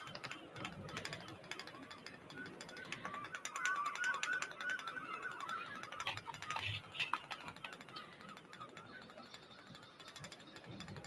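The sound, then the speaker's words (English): A woodpecker drills into wood with its beak in a fast, steady run of sharp knocks that continues for the whole stretch, fairly loud, with no talking. “A woodpecker's beak is very useful. Enoch can use it as a sort of drill”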